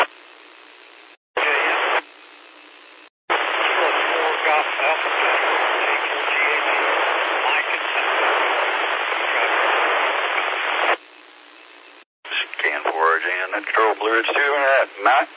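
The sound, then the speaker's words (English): Hissing radio static fills a band-limited amateur radio net channel in long bursts, with short gaps of silence between, and a faint voice of an operator checking in from Simpsonville comes through buried in the noise before clearer speech emerges at the end. “you're way down in the static.”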